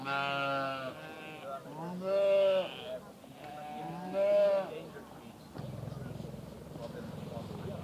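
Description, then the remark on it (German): Several loud, wavering sheep bleats follow one another, each a drawn-out quavering call, before giving way to a low, steady outdoor rumble; sheep on green pasture at the Institute for Organic Farming in Trenthorst, Schleswig-Holstein, Germany. “Schafe und Schweine stehen friedlich im Grünen.”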